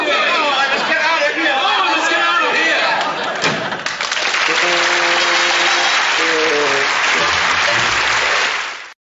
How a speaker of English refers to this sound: They do the last one liner, and they kind of go into the, you know, a big round of applause, and there's some Trump music in the background.